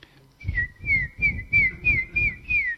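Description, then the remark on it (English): Someone whistles an imitation of a cuckoo's call: six high, repeated phrases, each sliding down in pitch, in a steady rhythm with soft low thumps beneath each phrase. “I hear the birds. I see the butterflies. I hear the cuckoo.”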